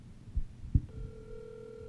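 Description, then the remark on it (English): Two soft low thumps, then a steady electronic phone tone starts and holds unbroken to the end, like the ringing tone of an outgoing call heard through a handset. “Call Chip Chantry.”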